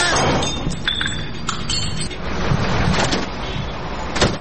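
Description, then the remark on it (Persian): A taxi passes by, its engine and road noise a loud, steady rush. Brief clinking, rattling sounds break through now and then, and the noise swells slightly at the very end. “اوه، این تکسی از کجا پاید؟”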